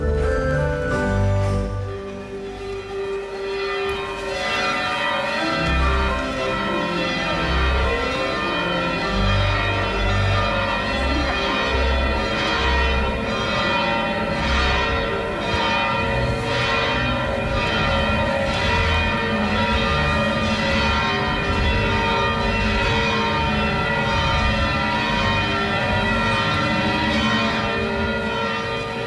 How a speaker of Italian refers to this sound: Abbiamo sentito le campane molto distintamente di questo campanile piuttosto alto e ricco di trifore e bifore, e queste campane che abbiamo sentito fra l'altro sono in parte del 300 e del 500, quindi anche insomma suoni storici.